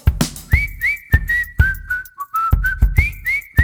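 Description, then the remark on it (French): Someone whistles a lively melody with clear rising and falling notes, loud, over a steady thumping beat in the background. “Je sais siffler.”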